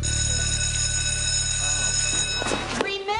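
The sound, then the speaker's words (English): The Mighty Morphin alert sounds as a loud, steady, buzzy electronic tone rich in high harmonics, then breaks near the end into rapid warbling, pulsing chirps before cutting off. “As I said, you are going to hear the Mighty Morphin alert, and then we'll get to the commentary in a moment.”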